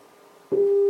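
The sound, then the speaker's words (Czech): A steady synthesized tone made by summing many harmonics, including the even ones, to approximate a sawtooth wave, with a buzzy edge, switches on loudly about halfway through and holds evenly to the end after faint hum. No one speaks. “Takhle to vypadá, když skládáme mnoho harmonických a dáváme tam i ty sudiny, můžeme se blížit třeba takhle k nějakému pilovitému zvuku.”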